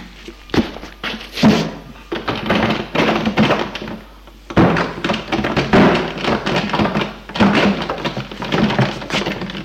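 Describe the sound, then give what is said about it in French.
Repeated heavy thuds and knocks against a locked door at the bottom of a staircase, coming in three bursts separated by brief pauses, with dull impacts and rattling as a man pushes and pounds on it, unable to open it. “Il ne peut l'ouvrir. Merde ! Il pousse, cogne.”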